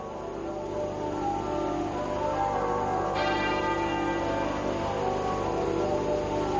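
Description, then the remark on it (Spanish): The church bells of Westminster, St Paul's Cathedral and Windsor Castle toll together in unison, broadcast live by the BBC, marking the farewell to Queen Elizabeth II; their deep resonant strikes overlap into a continuous ringing wash that stays steady and fairly loud throughout, with no voices present. “Escuchábamos ahora mismo cómo a esta hora doblan al unísono las campanas de Westminster, de la Catedral de San Pablo y también del Castillo de Windsor.”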